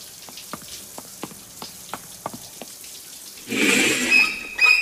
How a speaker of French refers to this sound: Une bonne douche, ça fait du bien.